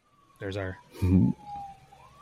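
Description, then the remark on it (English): An emergency siren wails faintly and steadily in the background, its pitch slowly rising and falling, while two short bursts of voices break in over it. “There's our weekly siren.”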